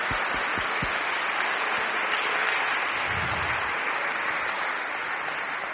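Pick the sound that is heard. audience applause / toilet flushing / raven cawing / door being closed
audience applause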